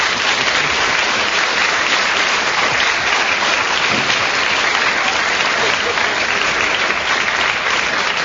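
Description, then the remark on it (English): Steady, loud studio audience applause for a point gained by Kenneth Williams fills the whole stretch, a dense continuous patter of many hands clapping without pause or voices, even throughout. “Well, Kenneth Williams was then speaking when the whistle went, and speaking to good effect, so he gained a point which the audience applauded.”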